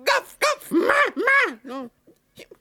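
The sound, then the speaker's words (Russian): A voice imitates a puppy barking, giving about five quick, whiny yaps in close succession, fairly loud, then trailing off into a couple of faint little sounds. “Вообще не можешь ни бе, ни ме! Гавкаешь!”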